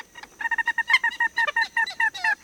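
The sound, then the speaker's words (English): A common gallinule cackles in a rapid, steady series of loud, clucking notes, each harsh and slightly nasal, running unbroken for a couple of seconds with no voices present. “This cackling chicken of the marshes, much more common in the south, nests only in a few scattered sites in Massachusetts, where it's protected under the State Endangered Species Act.”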